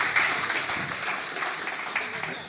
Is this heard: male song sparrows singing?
no